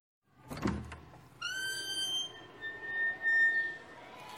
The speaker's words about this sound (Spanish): Mientras comían, escucharon el ruido de una puerta.